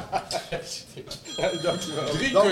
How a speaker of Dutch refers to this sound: Oh, dat gaat mijn telefoon.